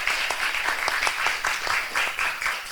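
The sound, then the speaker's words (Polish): A cinema audience applauds steadily after a film screening, a dense crackle of many hands clapping at an even level with faint individual claps poking through, and no voices over it. “Wielkie brawa.”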